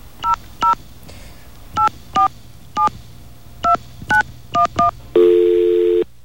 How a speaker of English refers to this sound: Let's get a dial tone. And let's call the number.